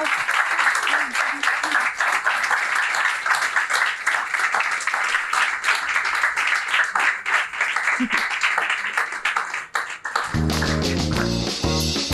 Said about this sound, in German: Also, nochmal großen Applaus für unsere drei GästInnen.